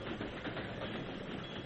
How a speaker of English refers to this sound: As he struggled with his bonds, the train began to slow down.